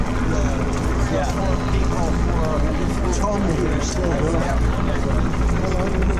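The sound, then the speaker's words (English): A steady, loud rumbling drone of two helicopters overhead a picket line runs throughout, with people talking over the continuous engine and rotor noise. “There's two helicopters above us.”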